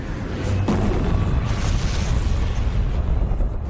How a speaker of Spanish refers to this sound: La lava sale a la superficie y entra en erupción con una explosión. Se produce una zona de apertura y lo que se conoce como una fuente de lava.